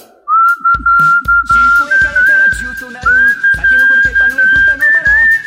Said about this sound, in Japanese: クイズ口笛ドン、なんて曲名かを当ててください、今回の曲はこちら。